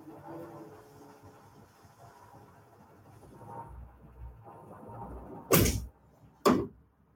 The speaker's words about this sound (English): can I check out and go close the door real quick?